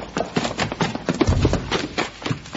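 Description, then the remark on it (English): Hooves of two horses clip-clop in a steady, rapid rhythm, moderately loud, with soft low rumbling underneath and no voices. “And there's two horses out back.”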